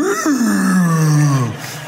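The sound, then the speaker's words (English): A person voices a long, low moaning call that slides slowly downward in pitch over about a second and a half, imitating a whale's song, loud with no other sounds. “You know, certain types of whales, they emit a sound.”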